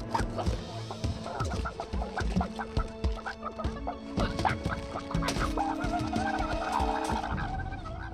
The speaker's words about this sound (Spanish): Papá, estoy rodeado de gallinas come humanos.